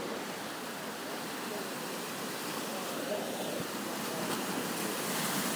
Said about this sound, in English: It's a really, really beautiful place. The waves reach the edge and talk with the stones and rocks.